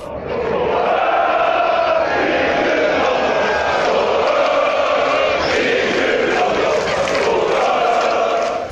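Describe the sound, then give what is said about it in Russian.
A large crowd roars continuously, many voices shouting and cheering together in a dense, loud wall of sound that holds steady for the whole stretch, with no break or lull. “«Ты не болеешь о своих ошибках, о горе близких, о родной стране, как эти толпы, о победе сборной, что поражением сменится потом».”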